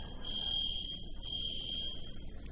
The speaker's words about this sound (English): We don't think there's a fire. Our alarm system does that once in a while. Go ahead and cover your ears if you want,